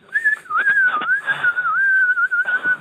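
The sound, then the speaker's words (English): A sustained, shrill whistle held for a few seconds, wavering slightly in pitch, loud with faint background noise. “Do you do a high-pitched whistle?”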